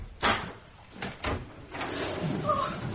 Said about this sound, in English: So late at night. I do not... Well, open the door, quickly.